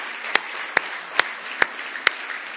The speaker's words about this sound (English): Now give him one more hand clap of praise tonight if you love him.